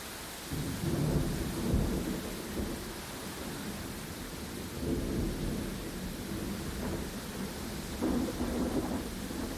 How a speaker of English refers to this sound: Can you hear the rain, mate? Do you realise it's raining? Can you hear the steady rain, mate?